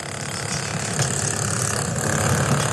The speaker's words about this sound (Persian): شب خیلی دشوار در مناطق زلزله زده ترکیه و سوریه. گاه صدای امبولانس بلند می شود که جسد یا زخمی را انتقال می دهد، گاه هم صدای ماشین ها برای برداشتن آوارها فضا را فرا می گیرد.